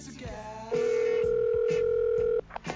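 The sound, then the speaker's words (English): A phone line rings on an outgoing call to a mother out on a golf course in the rain: one long, steady, mid-pitched ringback tone, loud and unbroken for under two seconds, then cut off abruptly, with faint murmuring before and after. “Yeah, well, she knows I'm gonna call. If she makes me call her back, she's going to have to pledge more.”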